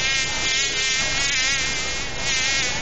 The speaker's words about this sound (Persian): خو مگز جان، گاهی وقتم شده که یک چشم آرام خو کده باشی، چرا که همیشه در گشت هستی؟